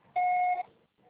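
A single steady electronic beep, the tone that signals a voicemail recording has begun, lasting about half a second at a fixed mid-high pitch, followed by faint background noise.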